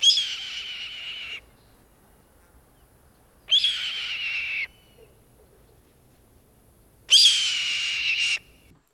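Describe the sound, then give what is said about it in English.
Three harsh, raspy, scraping screams of a red-tailed hawk, each about a second long and evenly spaced with quiet pauses between them. The calls sound loud, with no talking. “In flight, they will sometimes call with an unforgettable, raspy, scraping scream, which is used to frighten trespassers and impress females.”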